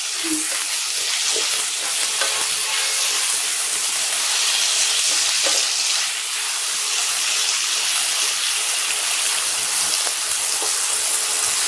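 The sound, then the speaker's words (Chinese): Dried tofu sizzles steadily in a frying pan as it is pan-fried until slightly hard, a continuous crackling hiss with small pops scattered throughout and no one speaking. “需要炸一会儿，需要把它炸把这个香干炸成，应该说煎成有一点硬硬的才可以。”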